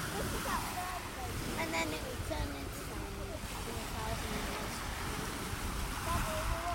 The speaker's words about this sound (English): as you can hear, but the water lapping up the shingly beach.